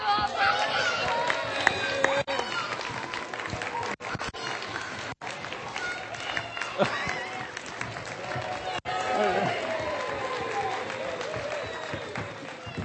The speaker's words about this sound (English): Okay, same as before. Lots of cheering, please. On your marks, get set, go!